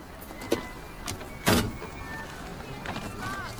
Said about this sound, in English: Excuse me. I know you didn't think anyone would catch you, but you just slammed your door into my car.